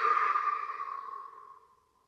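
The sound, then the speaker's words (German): A slow, airy exhale through the mouth, fairly soft, starting steady and gently fading out over about two seconds. It releases a breath held after a deep inhale through the nose into the belly, as part of a guided breathing exercise. There is no talking. “Und atmen lösend durch den Mund wieder aus.”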